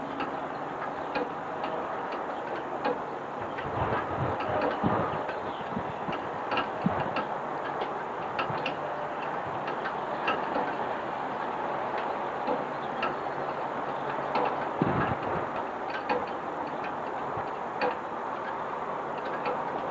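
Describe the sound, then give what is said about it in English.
A steady wash of distant traffic fills the background at 6:45 in the morning on a rainy day, while faint, irregular drips from downspouts tick and tap over it throughout, with no voices. “Unfortunately, all I can capture at 6:45 in the morning is a bunch of traffic in the distance and the slight sound of the dripping of the downspouts.”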